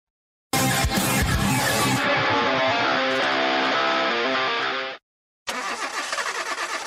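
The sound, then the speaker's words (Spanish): A car engine cranks and catches with a loud burst, then settles into a steady running hum for several seconds before cutting off abruptly; another stretch of engine noise resumes after a brief gap. “¿Quieres que tu carro dure más, que corra más suave y que rinda mejor? Tranquilo, estoy hablando de tu motor.”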